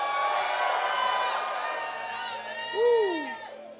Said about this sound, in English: Oh, hallelujah. If you are shouting, shout properly.